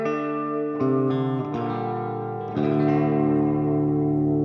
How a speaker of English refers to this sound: It's a little loud tonight, and then a long reverb for some of the crazy stuff.